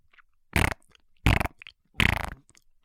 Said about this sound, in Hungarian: De apa megfogja az üveget, és egy kis kecsapot nyom a tányérra, miközben az üveg pukizós hangot ad ki.